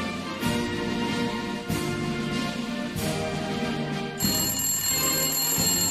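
A telephone rings loudly and continuously for several seconds, its bell pulsing in a steady repeating pattern with no voices over it.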